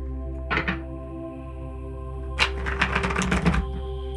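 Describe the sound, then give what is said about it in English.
A deck of cards being shuffled before a card is drawn for guidance: a brief papery ruffle, a pause, then a longer rapid flutter of crisp clicking cards over a low steady hum, with no talking. “All right, I'm going to shuffle the deck.”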